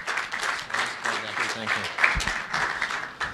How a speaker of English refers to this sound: Why don't you give him a round of applause as he wraps up.